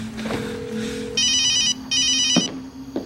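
cell phone ringtone ringing

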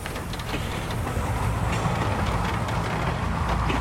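train on the rails

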